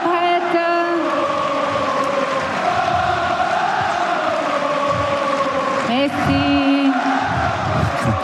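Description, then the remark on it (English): A noisy tennis crowd at Roland Garros shouts and roars continuously during a tiebreak, a dense wall of raised voices with rising yells and whistles, loud throughout and building again near the end. “Just listen to the crowd.”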